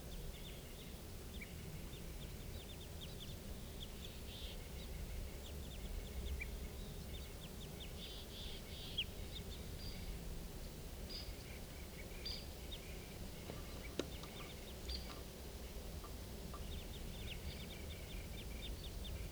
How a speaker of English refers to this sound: I'm pretty sure now those are crossbills up there.